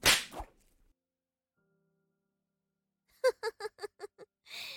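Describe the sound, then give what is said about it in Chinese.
A sharp whip crack snaps once at the start as a whip strikes a body, followed by a long silence, then a quick run of six voiced, laugh-like bursts and a final brief swish. “鞭子抽在身上的声音实在是太美妙了。”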